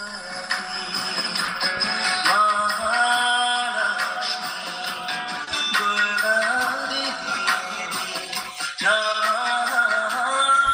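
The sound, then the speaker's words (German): A mobile phone ringtone plays a song's tune, a steady stream of bright melodic music with shifting notes running unbroken for about ten seconds, with no one talking over it. “Das ist, wenn das Telefon läutet.”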